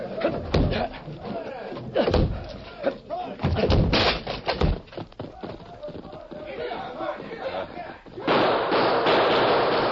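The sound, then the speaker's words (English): Several heavy, loud thuds and crashing impacts in quick succession as a locked back door is battered and broken down, with agitated voices shouting in the background and a noisy rush afterward. “Locked! We'll have to break it. Stand back.”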